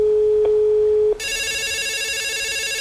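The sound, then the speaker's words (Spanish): A telephone rings for an incoming call: a steady low hum gives way to a loud, bright electronic ring with a rapid warbling trill that continues unbroken to the end. No one speaks. “¿Por qué están marcando con tanta urgencia?”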